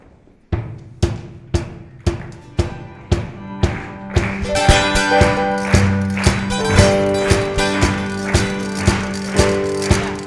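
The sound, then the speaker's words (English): A crowd claps and stomps in a steady, even beat, loud sharp hits roughly twice a second, and after a few seconds instruments join in and play along over the rhythm. “I want you guys to clap and stomp, and let's send us out on a good note, all right?”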